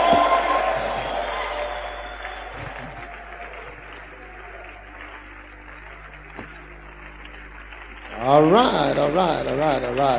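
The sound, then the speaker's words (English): An audience claps and shouts as a shout and clap offering to the Lord, a dense, steady wash of applause and cheering that slowly thins, then a voice rises over the noise in loud, pitched bursts near the end. “Give the Lord a shout and a clap offering and stand to your feet.”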